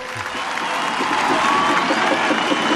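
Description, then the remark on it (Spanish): A crowd applauding steadily, dense sustained clapping that swells slightly and holds at a fairly loud level throughout, with faint cheering mixed in and no clear speech. “Así que por favor, darle el aplauso que se merece.”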